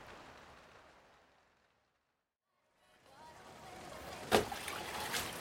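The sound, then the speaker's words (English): Water that has been leaking in from the wet weather outside trickles and sloshes indoors, fading to near silence before returning, with one sharp splashing drip standing out near the end against a steady wet background. “Oh, it's just as wet in here as outside. Yeah, the water's been coming in for a while now.”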